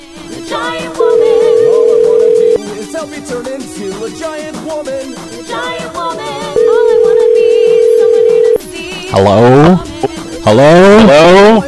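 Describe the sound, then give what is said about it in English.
A phone call placed over a CallCentric VoIP line to a cell phone rings through: two long, steady ringback tones several seconds apart amid faint background noise, then a voice answers near the end. “I'm going to try and use CallCentric. Maybe that'll work. Let's call my cell phone.”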